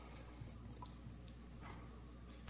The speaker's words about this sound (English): Dying of thirst and drawn to the rippling gurgle of the stream, Jill steps a bit forward.